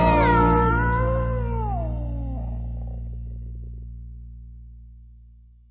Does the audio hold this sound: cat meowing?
yes